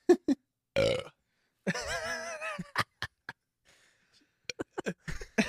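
human body sound, burping

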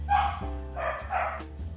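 animal, dogs barking

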